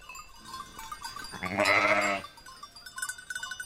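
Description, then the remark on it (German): A single dark brown and white sheep, one of a group on a steep slope in the Swiss mountains in the evening sun, bleats once, a loud, wavering baa lasting under a second, with quieter outdoor ambience and faint bleats around it. “Sie hält es einer Gruppe Schafe hin, die vorsichtig näher kommt.”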